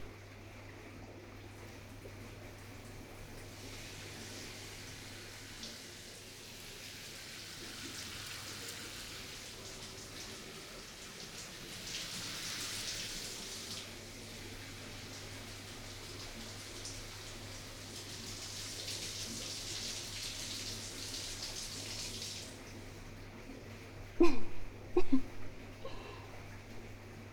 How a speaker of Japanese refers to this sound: ほら、まずはシャワーよ。